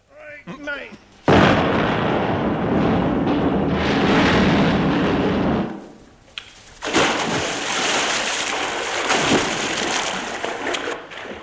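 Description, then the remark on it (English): A brief voice, then a sudden loud explosion as a bridge is blown up in The Goon Show, a BBC recorded program: a long roaring blast that fades briefly before a second sustained wave of crashing, splashing debris. “We've come to blow the bridge up.”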